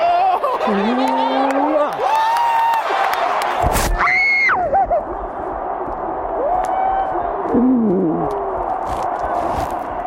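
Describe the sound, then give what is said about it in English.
A large crowd of Minnesota Vikings fans at a stadium in Minneapolis roars and cheers continuously on a Sunday evening as a soldier surprises his family, with high shrieks and whoops rising above the steady wall of noise and a sharp burst of sound partway through. “until he pulls a big surprise, which ignites the crowd.”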